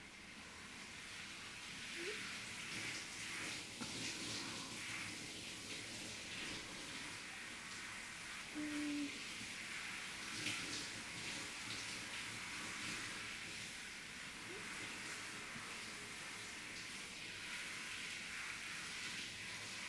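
A steady, soft hiss of running shower water flows continuously for the whole stretch as a person's soap foam is thoroughly rinsed away. The sound is even, with no voices.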